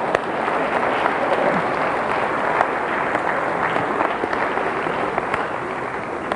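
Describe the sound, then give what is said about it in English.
An audience breaks into steady, sustained applause, a dense wash of many hands clapping at an even loudness for several seconds with no voices standing out. “You want to clap? You can clap.”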